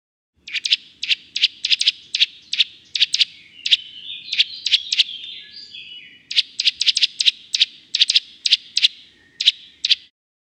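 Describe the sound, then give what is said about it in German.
Eurasian nuthatch calls: loud, sharp, high whistled notes repeated in quick rhythmic bursts, with a brief warbling stretch in the middle, clear with no talking. “Die Baumhöhlen baut der Kleiber übrigens nicht selbst.”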